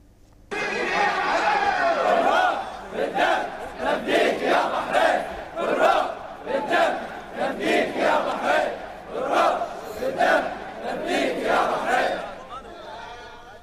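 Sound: crowd of protesters chanting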